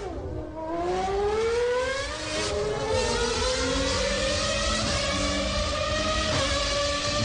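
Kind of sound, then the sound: vehicle, race car engine revving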